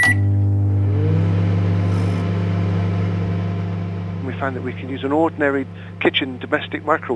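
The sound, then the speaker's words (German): A kitchen microwave oven, used to dry a silicate cream into a nanopowder, hums steadily and loudly, with a short high beep right at the start; partway through, a person begins talking over the continuing drone. “Wir fanden heraus, dass sich zum Trocknen auch eine Mikrowelle aus der Küche nutzen lässt.”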